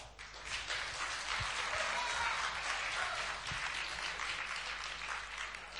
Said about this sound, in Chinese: 谢谢，感谢您各位的掌声鼓励。